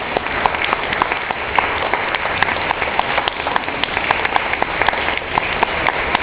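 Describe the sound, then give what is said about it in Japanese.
Sustained audience applause, a dense, steady crackle of many hands clapping at once, holding at an even loudness from start to finish with no voices over it. “これだけ拍手をいただいてすごく申し訳ないので、もう一曲と言いたいところなんですけど、曲がありませんので”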